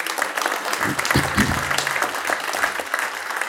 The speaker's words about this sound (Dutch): Een applaus